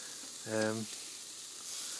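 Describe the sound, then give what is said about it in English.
Steady barbecue sizzling hisses and crackles throughout at a smoky barbecue booth with flame and smoke, on a warm, sunless evening of about 20 degrees, with a brief voiced sound breaking in near the start before the sizzle carries on alone. “I'm currently at the barbecue. I hope you can hear the sizzle, flame and smoke.”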